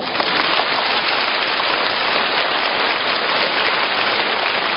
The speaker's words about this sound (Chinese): 那么鼓掌鼓了半天，我就是想听听了